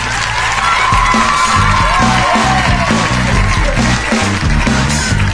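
A crowd at a school spelling contest cheers and whoops over steady applause for a contestant of the Institut de Palamós team, a dense continuous roar with shouted voices rising above it for several seconds.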